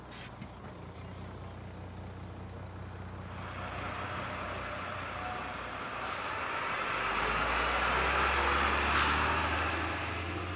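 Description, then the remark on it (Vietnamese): A large school bus carrying students from Singapore to Malacca rumbles along with a steady low engine drone and road noise that gradually swells louder, broken by a couple of short hissing bursts like air brakes. No one speaks. “Sáng sớm ra, cả đám lên xe buýt lớn của trường, tưởng là đi sân bay để bay đi Malacca, thì hóa ra lại đi bằng xe buýt, vì từ Singapore tới đó chỉ mất có khoảng 4 tiếng đồng hồ đi xe.”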